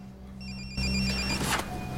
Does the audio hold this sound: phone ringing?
yes